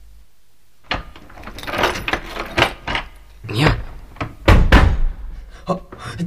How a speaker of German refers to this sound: Ich schließe uns jetzt ein. Die andere Tür mache ich auch zu, damit uns niemand überraschen kann.